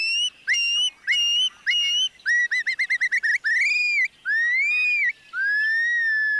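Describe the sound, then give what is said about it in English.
Loud, clear shorebird whistles dropping from the sky over their breeding grounds on the prairies: several rising, slurred notes, then a quick rapid trill-like series, followed by longer upslurred and level whistled calls, high-pitched and ringing, with no talking. “And their whistles can be heard again, dropping from the sky.”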